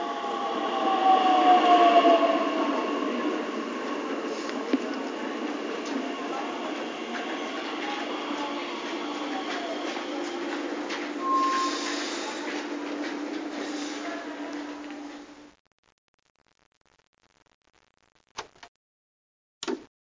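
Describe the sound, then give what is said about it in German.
A train rolls steadily along the rails with a loud, continuous rumble and brief wheel squeals, then cuts off abruptly into near silence broken by a couple of faint clicks. “Wir schwingen uns mal in den Zug.”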